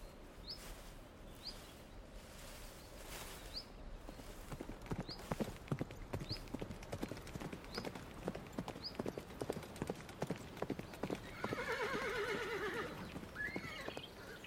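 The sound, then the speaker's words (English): A wild horse on the prairies and plains: hooves clip-clop in a steady rhythm for several seconds, then the horse lets out a loud, wavering neigh near the end, with faint chirps of birds in the background. “as we go into this immersive experience with me, Steph Wolf, into the prairies and plains where the wild horse resides.”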